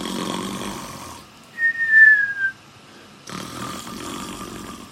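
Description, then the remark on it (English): A person imitates snoring: a rough, raspy inhale, then a thin, falling whistle on the exhale, followed by another gravelly breath. No one speaks. “If you don't know what snoring means, it's kind of go, it's when you go.”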